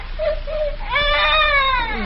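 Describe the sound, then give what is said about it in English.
A baby cries at the home of the local train dispatcher in River's End: two short whimpering bleats, then a louder, sustained wail with rich harmonics that rises and falls, heard alone without speech. “Oh, my goodness, the baby.”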